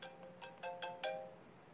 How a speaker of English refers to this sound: If all of a sudden here Moses, who now had a cell phone up at Mount Sinai, and here's Moses, who now has a phone call coming to him from Aaron. You may not hear it.